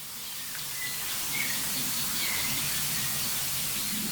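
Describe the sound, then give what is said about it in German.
A few faint, high calls of small songbirds chirp briefly and sparsely against a steady outdoor hiss. No one is talking. “Ja, ich meine, die kleinen Singvögel eben, die haben ja angezeigt, wohin der große Vogel geflogen ist.”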